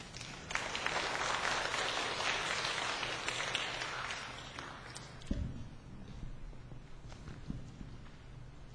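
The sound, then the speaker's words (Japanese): An audience claps in a dense, steady burst of applause that fills the first few seconds, then thins and fades away, leaving a few scattered thumps and shuffles, welcoming a speaker who comes up to give a testimony. “どうぞ皆様拍手を持ってお迎えくださいませ。”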